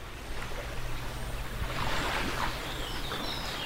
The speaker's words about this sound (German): Vogelgezwitscher und leiser Wellengang am Thomas-Mann-Haus in Nida. Das Haus liegt im litauischen Teil der Kurischen Nehrung und zwar auf der ruhigen Seite zum Haff hin. Nicht an der wilden Ostseeseite mit seinen Dünen und den teils mächtigen Wellen.